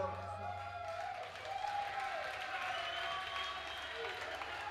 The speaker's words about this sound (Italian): Nelle serate magiche come questa, quando il pubblico, quando i guerrieri della musica, tutti insieme fanno un applauso.